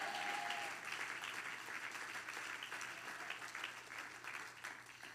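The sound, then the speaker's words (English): A crowd claps steadily for several seconds, a dense wash of many hands with scattered voices calling out underneath, consistent in loudness throughout. “I think everybody ought to clap your hands and shout, yes!”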